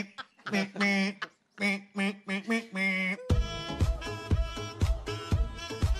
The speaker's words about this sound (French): Manque quelque chose. Un son de canard malade.